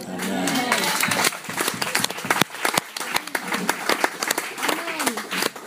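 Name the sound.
audience applauding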